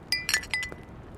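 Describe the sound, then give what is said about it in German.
Several glasses clink together in quick succession in a toast, bright ringing tings with short sustained tones, moderately loud, with no voices. “Dann trinken wir jetzt mal. Auf unseren Künstler. Auf das Autohaus. Und auf dich, Frank. Prost. Prost.”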